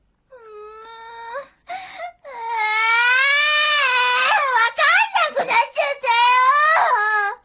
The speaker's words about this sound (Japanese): 子供が泣いてますわ。どうしたんですの？